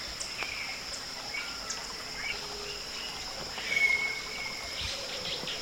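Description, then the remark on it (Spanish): A rufous-backed thrush gives a few soft whistled notes, one drawn out, answering another nearby rufous-backed thrush with the same type of whistle, over a steady high drone of insects and faint water sounds. “Otro mirlo dorso canela está contestando al individuo cercano con el mismo tipo de silbido.”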